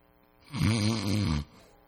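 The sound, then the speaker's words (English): A single loud, drawn-out snore imitated by a voice, a rough rattling inhale lasting about a second, clear against quiet, imitating the people sleeping in the garden while Jesus prayed. “Your most desperate time, and just people are snoring.”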